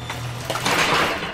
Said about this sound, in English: Luke backs away as the gates slowly begin to close. He walks toward his car and gets in as they clang together.